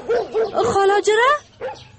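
A dog gives a few quick, sharp barks that slide into a drawn-out, wavering whimper, then one last short yelp after a brief pause. The dog is tied up.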